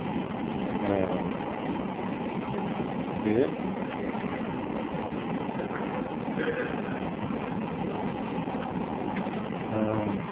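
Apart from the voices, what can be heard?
airplane engine running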